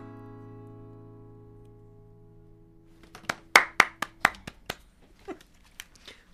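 A held musical tone rings out and fades, then a small, scattered round of applause follows: roughly ten sharp, uneven claps from just a person or two, with no voices.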